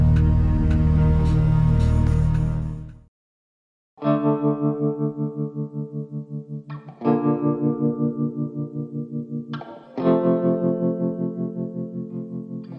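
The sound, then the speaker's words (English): The catchy theme tune of the Glenn Beck program plays loud and alone: a dense full-band burst, a brief pause, then ringing distorted guitar chords struck every few seconds, each sustaining and fading. “This is a catchy tune, man. I'm going to be humming this all day long.”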